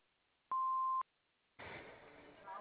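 A single steady electronic answering-machine beep, about half a second long and loud against a quiet line, followed after a brief pause by a caller starting to leave a message.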